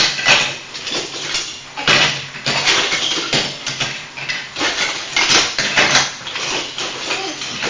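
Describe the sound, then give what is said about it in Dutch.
Plastic Duplo toy bricks clatter and rattle in repeated, uneven bursts, fairly loud and busy across the whole stretch, with no one talking over it. “Wat een heavy maakt die Duplo.”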